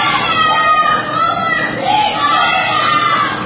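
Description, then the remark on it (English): A crowd of protesters shouting together at President Biden's health care event in Raleigh, North Carolina, interrupting his remarks. Loud and continuous, with overlapping voices forming a dense, agitated roar that doesn't let up, shouting "What about health care in Gaza?" “During an event in Raleigh, the protesters shouting, "What about health care in Gaza?"”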